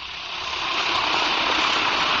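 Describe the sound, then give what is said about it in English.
An Alka-Seltzer tablet fizzes in water, a steady bright hiss of tiny popping bubbles that swells slightly louder after the first half second and holds for about two seconds, with no voices. “Now, listen to it fizz.”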